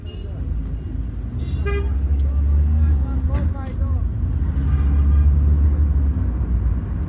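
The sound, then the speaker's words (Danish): A taxi rolls through traffic with a steady engine rumble, brief horn toots sounding around it, and faint indistinct voices in the background; recorded on a mobile phone during a taxi ride. “Og en af de der lydoptagelser, jeg kunne ikke gennemskue præcis, hvad det var, der foregik, fordi det var egentlig bare lyden af en bil, der kørte.”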